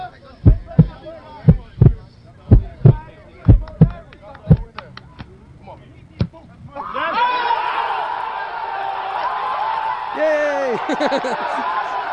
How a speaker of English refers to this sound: Listen for the heartbeat.